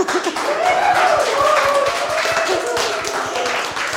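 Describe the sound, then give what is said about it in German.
A studio audience applauds steadily for several seconds after a performance, a dense wash of many hands clapping at once, with scattered cheers and voices mixed into the crowd noise. “Es gibt großen Applaus aus dem Publikum für diese Darbietung, die keine einfache gewesen zu sein scheint.”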